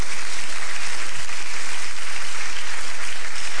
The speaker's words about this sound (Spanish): Dele palmas al Dios de la gloria.